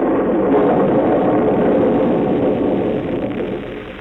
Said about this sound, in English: It was a nasty, miserable day. It was raining. The wind was howling. Then it began to thunder.